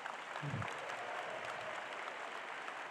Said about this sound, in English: We're going to go, production team in the back, you guys are awesome. All the men are going to give you a round of applause, and we're going to skip through a few slides. Go, men, round of applause.